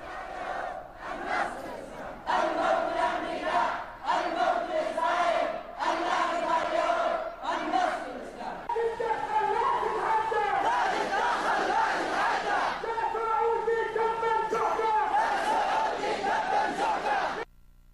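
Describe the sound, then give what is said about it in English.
A large crowd of Yemeni anti-regime protesters at a mass rally chants slogans in unison against Israel and US and Saudi interference, loud rhythmic bursts of shouting with short pauses between phrases for the first half, then a sustained, continuous roar of massed voices. “The protesters have also chanted slogans against Israel.”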